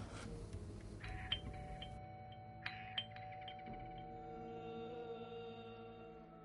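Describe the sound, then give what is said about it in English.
A doorbell chime rings out in a few bright, bell-like tones that strike in quick succession and hang in a long, shimmering decay, clear with no voices. “He heard her doorbell beyond the circling crows and passing buffaloes.”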